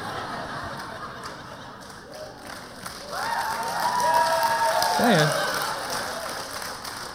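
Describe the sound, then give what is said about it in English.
Steady rain patters down with a dense, crackling hiss that fills the whole stretch, swelling slightly midway, while a man briefly exclaims over it. “It's raining, by the way.”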